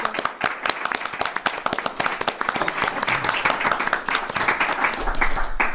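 An audience applauds steadily, dense overlapping claps at a fairly loud, sustained level for several seconds without any voices.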